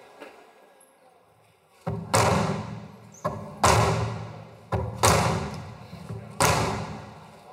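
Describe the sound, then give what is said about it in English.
A man strikes a painted mural with a hammer, mimicking gunshots, loud heavy blows landing in quick pairs and then singly, each impact ringing out with a short echoing decay. “He started to strike the mural with the hammer, mimicking the sounds of gunshots.”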